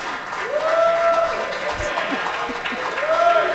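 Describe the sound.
A crowd applauds steadily with dense clapping, mixed with cheering voices and a couple of rising whistles, loud and sustained throughout.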